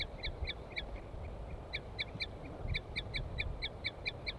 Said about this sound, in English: Recording, here comes the female giving toots. And L5 is giving a weird call or song or something. Female tooping.